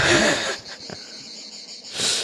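A steady, high-pitched chorus of crickets chirps continuously, with louder breathy, rushing noise at the start and again near the end. No one speaks.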